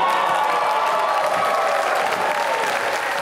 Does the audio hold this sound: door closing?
no